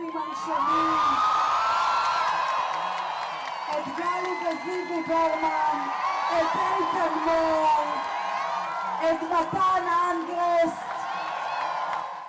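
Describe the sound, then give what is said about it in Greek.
A large crowd that gathered in the morning cheers and whoops in celebration at news of the release of Israeli hostages, a dense, sustained roar of shouting voices with scattered high yells rising above it throughout, loud and continuous. “Όταν τελικά η στιγμή αυτή ήρθε, το πλήθος ξέσπασε σε ζητοκραυγές, τραγούδια, χορούς και φυσικά πολλά κλάματα μαζί με άπειρα χαμόγελα.”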